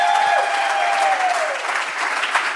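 A crowd at Cornerstone Church in Atlanta claps and cheers for the church, loudly and steadily throughout, a dense wash of applause with a high whistle sliding downward early on.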